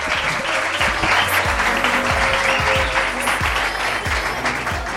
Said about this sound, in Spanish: Un fuerte aplauso